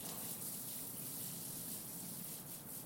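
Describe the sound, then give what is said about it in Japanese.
Steady shower spray rinses foam off a body, including the soles of the feet. There is a continuous hiss of running water with soft splashing and slight shifts as the stream moves across skin. No one speaks. “体もしっかり泡残りがないようにと。足の裏の泡もちゃんと落として。”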